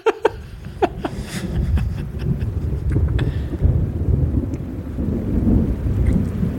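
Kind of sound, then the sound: nature, thunderstorm with rain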